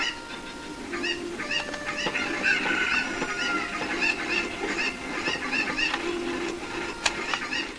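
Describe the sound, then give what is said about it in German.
A flock of chickens clucks steadily, with many short, overlapping calls piling up into a busy, continuous chatter and no voices. “Nee, gerade auf das andere Huhn zu laufen.”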